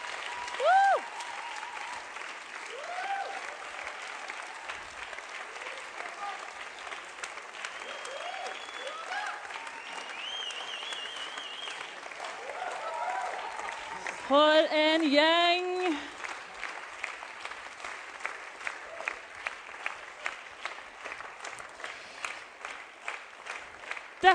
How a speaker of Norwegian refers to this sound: Og nå har jeg lyst til at dere skal bare komme opp og vise dere fram for Ungfylla-familien. Klapp de fram!